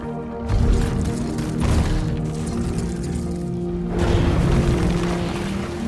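A rock giant's huge foot stomps down on the forest floor with a deep, booming crash, stopping a crack torn by a shockwave, followed by a long low rumble and a second heavy surge of impact noise. No voices are heard.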